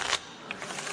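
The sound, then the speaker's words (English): A quick riffle of playing cards being shuffled again during a game of Snap, a bright papery burst at the start followed by softer flicking and rustling, with no voices. “You shuffle it again.”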